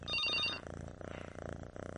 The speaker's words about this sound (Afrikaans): Die huisfoon lui.